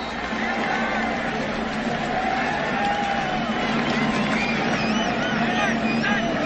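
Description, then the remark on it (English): A large stadium crowd at a USC football game cheers in a steady, loud, continuous roar for several seconds after a snap by Jake Olson, with a few high whistles rising out of the noise near the end. “Listen to the crowd.”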